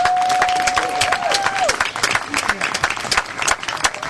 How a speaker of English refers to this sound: So please give a round of applause for Linda Hopkins.